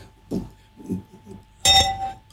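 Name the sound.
drinking glasses clinking together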